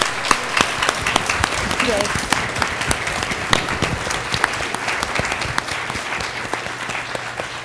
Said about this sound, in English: Thank you to these three. Yes, please join me in a round of applause for our entire panel. Yes.